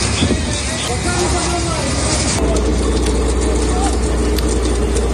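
Firefighters putting out fire in several buildings in Odessa, southern Ukraine, after a Russian drone attack: a loud, steady rush of spraying water and hiss over a deep, continuous engine rumble, the texture shifting slightly midway.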